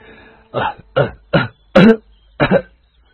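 A man gives a loud run of five harsh coughs in quick succession, with brief gasping pauses between them; the fourth cough is the strongest, and no one speaks.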